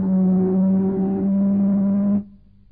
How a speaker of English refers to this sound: Give them a blast on the ship's siren, Chief.